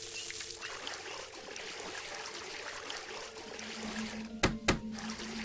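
Deep water pours and trickles steadily, a continuous splashy wash, with two sharp knocks sounding near the end. No one speaks.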